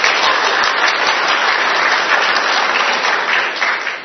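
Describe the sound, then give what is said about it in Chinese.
A church audience claps together after the choir's singing, in a dense, steady wash of applause that holds at a strong, even level for about four seconds, easing slightly at the very end, with no voices heard. “所以让我们一同鼓掌，我们把一切的荣耀赞美都归给在我们做宝座的君王，好吗？”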